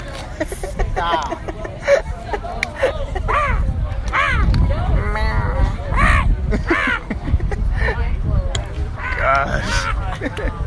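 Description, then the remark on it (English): A voice makes a rapid string of nasal, warbling meow imitations like a cartoon snail's, fairly loud, with a busy, chattering background throughout. “It sounds like I'm saying rah. I don't know what it sounds like. Stop it. Gary the snail.”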